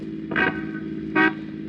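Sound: car driving away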